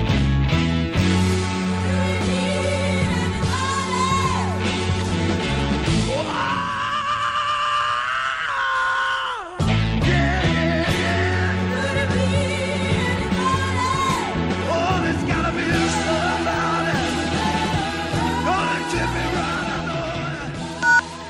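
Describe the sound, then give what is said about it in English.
A rock song with full band where the singer lets out a long, high, piercing scream with wavering pitch that soars over the loud music, stops abruptly, then the song drives on. “I mean, he probably has the rock and roll's greatest scream throughout that song.”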